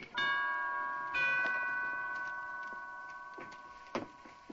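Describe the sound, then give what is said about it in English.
A doorbell chime rings out with two clear tones about a second apart, each leaving a long, slowly fading ring, followed by a couple of faint clicks near the end. “No, I heard the bell. The bell is on the door.”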